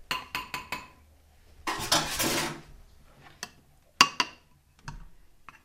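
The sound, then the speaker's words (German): A spoon stirring the mixture clinks rapidly against a large ceramic cappuccino cup four times, then a rough swishing scrape follows, and a few scattered bright, ringing taps finish it off. “Du rührst das Ganze nochmal um, einfach mit einem Löffel.”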